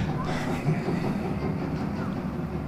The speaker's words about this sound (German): Also da spiele ich ein paar schöne Bahnhofsgeräusche ein, als damit wir hier das atmosphärisch einigermaßen, dass das passt.